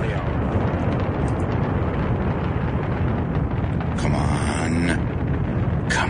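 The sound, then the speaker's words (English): A rocket launch's liftoff roar: a thick, loud, steady rumble that never lets up, with a brief higher whining tone rising out of it near the end. “Liftoff.”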